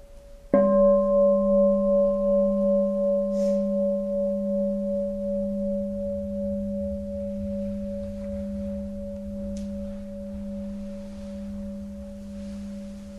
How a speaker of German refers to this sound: Hören wir nochmal eine Glocke.